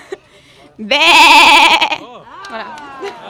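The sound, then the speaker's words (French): A person imitates an old salt-meadow ewe of the Manche, letting out one loud, quavering bleat with a shaky, nasal tremble, followed by softer vocal murmurs trailing off. “je vais vous faire la brebis de présalé de la Manche.”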